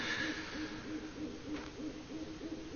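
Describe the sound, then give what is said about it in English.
A bird calls over and over indoors from up above, a rapid run of short, hollow hooting notes in a steady rhythm, clear, with a faint hiss of room noise beneath and no talking. “Not to mention the fact, get this, ignore the bird up there, you've all seen birds before.”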